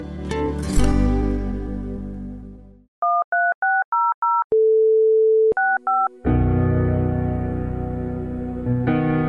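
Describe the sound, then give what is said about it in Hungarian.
A telephone keypad beeps out a quick run of five tones, then a steady dial tone holds for a second before two more key beeps follow, dialing a number and extension to donate to Mária Rádió, framed by louder droning sound before and after. “A 13600-as telefonszám felhívása után a 65-ös mellékbeütésével tudja támogatni a Szüzanya Rádióját.”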